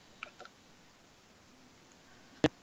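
Clicking noises as someone tries to fix a computer, over a quiet hush: a couple of faint, soft clicks close together near the start, then a long pause before one sharper, louder click near the end. No one speaks.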